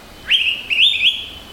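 An Araripe manakin calls once: a bright, high whistled phrase that breaks into a second, warbling, slightly trilled part, clear over a quiet background with no voices.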